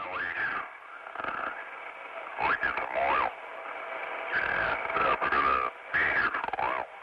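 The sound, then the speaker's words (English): A garbled ship-to-shore radio call from the captain of the oil tanker Exxon Valdez just after midnight on March 24, 1989, signaling the oil spill; a male voice muffled and thin, broken up by hissing static and abrupt dropouts across several bursts. “a garbled radio call full of static from Captain Joseph Hazelwood on the tanker Exxon Valdez”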